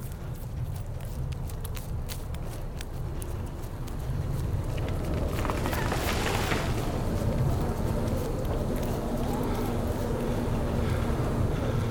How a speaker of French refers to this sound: Ah non, on est juste pris dans une immense tempête.